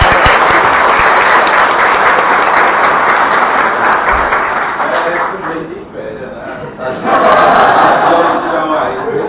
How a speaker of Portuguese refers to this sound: Então vamos aplaudir as garotas.